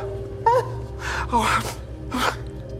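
A man sobs up close, with several ragged, gasping breaths and a brief wavering whimper, set against a steady low hum in the background.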